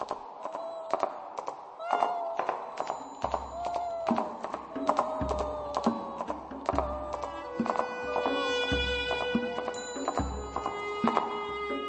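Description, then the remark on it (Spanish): Sharp, evenly paced clicks of high-heeled shoes stepping through palace corridors at night, clear and fairly loud, over a sustained eerie musical drone with occasional deep thuds. “Su fantasma recorre los pasillos del palacio y en las noches profundas se oye el taconeo de sus zapatitos en llamas.”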